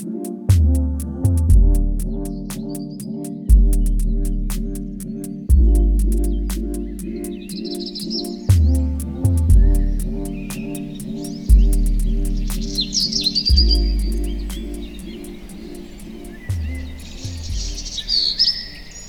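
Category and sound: bird, birds chirping and singing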